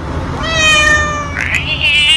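A single drawn-out cat meow with a low, menacing tone, rising into a strained, whining wail near the end, loud with no talking.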